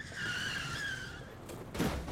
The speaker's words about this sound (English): But as he crossed the road, he heard the screech of tires and turned to see a black car speeding towards him.